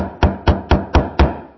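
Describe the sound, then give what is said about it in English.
Five firm knocks on a door in a quick, even rhythm, each a solid thud with a hollow low body, fairly loud, with no voices. “You might find some night he'll knock on your door.”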